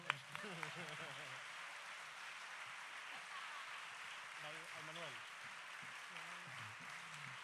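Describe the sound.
Steady applause from a crowd fills the whole stretch, dense and continuous, while a man's voice speaks over it in short bursts through an amplified sound system.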